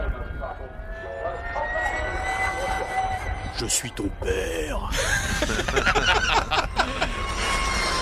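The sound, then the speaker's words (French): A motorcycle engine hums with a steady, high turbine-like whine, its pitch shifting and building toward the end, loud, while voices talk over it. “On dirait une turbine. Ouais, bon, on dirait un avion.”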